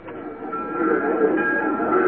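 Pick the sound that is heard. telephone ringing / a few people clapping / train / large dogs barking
train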